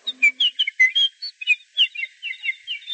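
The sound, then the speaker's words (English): Birds chirp and whistle in a quick, continuous string of high, bright notes, clear with no talking, one brief low hum at the very start. “Look, the birds remember my sons.”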